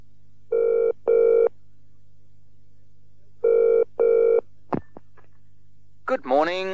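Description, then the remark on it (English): A telephone rings twice, each ring a pair of short electronic trills with a pause between, followed by a click as the line is answered and a voice begins speaking; a woman is calling Jackson's Garage about trouble with her car. “You will hear a woman telephoning a garage about her car.”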